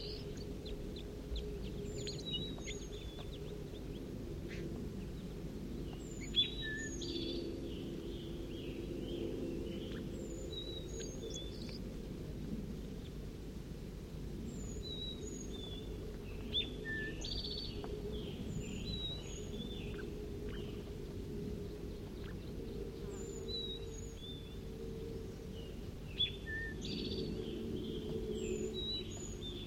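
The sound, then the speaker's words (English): Juvenile birds give begging calls in a cherry tree: short, high, thin chirps repeated irregularly throughout, often in quick clusters, over a steady low rumbling background. No one speaks. “we also have juveniles giving begging calls back in the cherry tree.”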